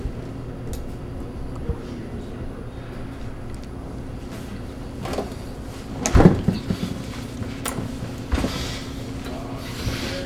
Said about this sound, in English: No, open the fridge. Yeah, open the fridge. There we go. Look at all the beer. Grab it.